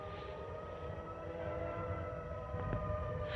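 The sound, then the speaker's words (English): A siren wails in a steady, sustained tone rich with layered harmonics, holding unbroken for several seconds over a low rumble, with a brief knock near the end. No one speaks. “As he heads out of a bunk room, the sound of a siren stops him in his tracks.”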